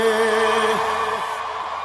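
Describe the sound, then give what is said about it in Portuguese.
A loud, drawn-out vocal whoop held on one pitch for about a second before sliding downward, standing out against a dense, steady background wash. “Deixa eu dar um gritinho aí.”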